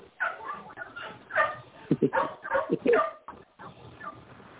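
A dog barks and yips in a quick cluster of short, sharp barks midway through, with softer whimpering sounds and some vocal murmuring around them.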